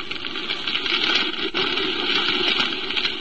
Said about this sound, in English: The fire engines and police cars streaking through the streets toward the Olympus Piano Factory told me which way to head.